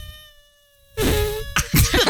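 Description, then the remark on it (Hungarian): A voice mimics a mosquito with a thin, steady whining hum that starts faint, swells suddenly louder and nasal, then breaks off into a couple of abrupt, noisy bursts. “Jó, a szúnyog jó. Nagyon jó. Jól hozza a szúnyogot.”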